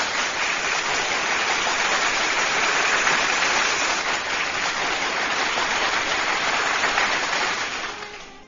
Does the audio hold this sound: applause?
yes